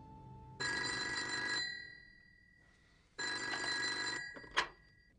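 A telephone rings twice with a bright, metallic bell trill, each burst lasting about a second, separated by a pause, followed by a short click as if the receiver is picked up.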